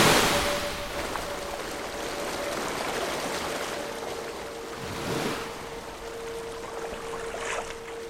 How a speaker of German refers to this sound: Das klingt nach einer Brandung. Hier. Nach dem Meer. Jetzt höre ich auch den Wellengang.